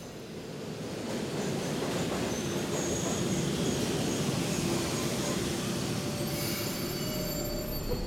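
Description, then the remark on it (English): A downtown local subway train, boarded at 42nd Street, rumbles in loud, a steady grinding roar with thin, high wheel squeals rising above it as it slows into the station, sharpening near the end. “Oh, here's the downtown local.”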